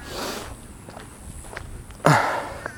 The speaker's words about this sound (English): Excuse my sniffing.